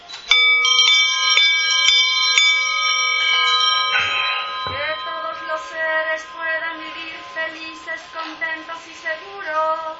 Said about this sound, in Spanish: Karuna Sutra, o el Sutra de la Gran Compasión, Maha Karuna. Entonces iniciamos con campanas, por favor.